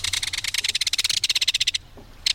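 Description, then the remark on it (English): A belted kingfisher gives a loud, rapid, dry metallic rattle, a long run of harsh clicking pulses that stops briefly and then starts up again. “There's no other sound along a stream or waterway quite like the reverberating metallic call of a belted kingfisher.”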